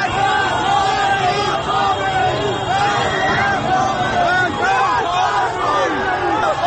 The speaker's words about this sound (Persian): جمعیت ناگهان صدای فریادش بلند میشود و به سمت خیابان اصلی حرکت میکند.